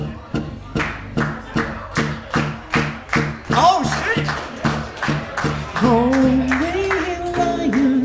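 Steady, rhythmic hand claps sound about twice a second in an even beat, crisp and fairly loud; after a few seconds sung voices come in over the continuing claps.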